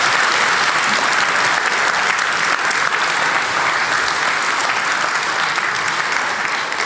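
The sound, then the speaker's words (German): Sustained audience applause for the content team at the GPN event, a dense, steady wash of many hands clapping at an even loudness for about seven seconds, with no voices rising above it. “Applaus für das Content-Team bitte.”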